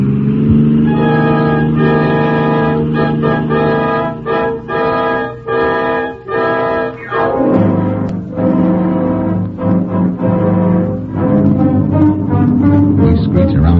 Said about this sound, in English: Their car roars past.